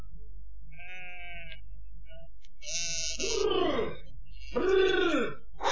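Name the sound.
flock of sheep bleating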